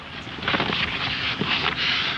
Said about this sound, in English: Sounds like some very intense shuffling to me. Then Harpo relents, picks up the boulder, carefully polishes it apologetically, and then drops it again. But the shuffling has a purpose.